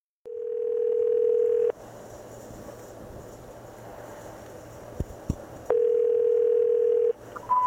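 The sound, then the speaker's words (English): A call dialed to Bradley Manning's cell phone number rings: two long, steady ring tones separated by a stretch of hissing line noise with a couple of clicks, then a short, higher beep at the end. No one speaks. “So I just went back, looked up the number, and dialed it, and dialed it several times, listened to it.”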